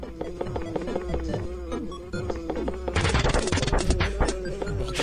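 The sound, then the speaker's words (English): Rapid, repeated video game hitting sound effects from the Japanese version of a Ness game scene where a dad beats his children in an adjacent room, a flurry of sharp thwacks and smacks that grows louder and denser after a few seconds, over a low droning tone. “How frantically are you beating your children?”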